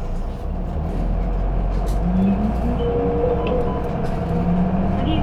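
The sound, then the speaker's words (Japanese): A bus engine rumbles steadily and rises in pitch as the bus departs after its doors close, with a low continuous drone and faint mechanical whines, filling the whole recording. “扉が閉まります。 発車します。お捕まりください。 発車いたします。”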